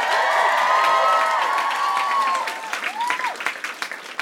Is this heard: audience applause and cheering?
yes